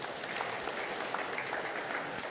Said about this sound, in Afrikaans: Om te sê, hoor die ouens ons kort hulp, sien julle, dis die ouens vir werk ons kort nog, geef hulle lekker hande klap toe.